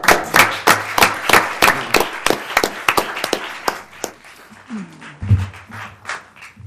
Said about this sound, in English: All right. Thank you. Give him a hand one more time.